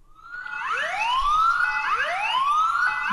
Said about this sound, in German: Wir hatten noch einen Alarm.